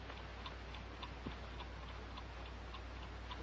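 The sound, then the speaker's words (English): A clock ticks steadily with a soft, regular rhythm, each tick faint, alternating slightly in tone like a tick-tock, over a low background hum with no one talking. “Clock's not fast, you know.”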